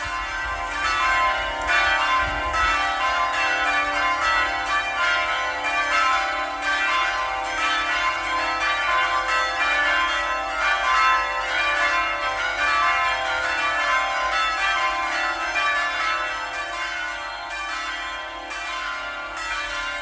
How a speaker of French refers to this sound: Que nous venons d'entendre, ce sont les cloches. Les cloches de l'église de Port-Marly, donc il adorait les cloches,